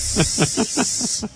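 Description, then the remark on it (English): A steady, sharp hiss, like a snake, runs through the whole moment, loud, with a quick rhythmic pulsing underneath that throbs about five times a second. “Like a snake.”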